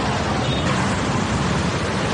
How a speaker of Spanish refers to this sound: Imagínate tener que soportar un ruido constante y de fondo, una mezcla de sonidos provocados por motores, neumáticos al contacto con el asfalto y frenadas, algo parecido a esto.